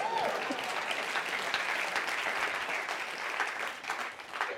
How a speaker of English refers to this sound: You can clap.